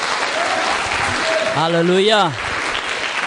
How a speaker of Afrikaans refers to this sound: Gee lekker 'n klap vir hom.